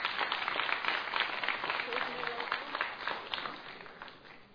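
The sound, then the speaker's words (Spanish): An audience applauds to welcome a speaker, a dense patter of many hands clapping at once that holds fairly loud for several seconds before easing off slightly at the end. “Fuerte aplauso.”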